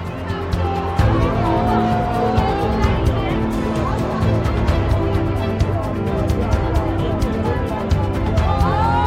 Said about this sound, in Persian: اونا با ماشینای ون از جاده باریکی عبور میکنن، میرسن به محوطه یه سرباز بزرگی روبروی یه ساختمون.